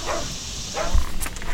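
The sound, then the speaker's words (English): Dogs bark a few times in short, scattered bursts over a steady background hum, with no one speaking. “Do those dogs know you?”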